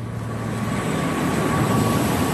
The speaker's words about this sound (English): Those are computers doing the calculations needed to unlock new digital coins like Bitcoin. It turns out that all digital process, it actually uses more energy than industrial gold mining, a lot more.